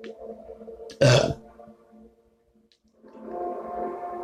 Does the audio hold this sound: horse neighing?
no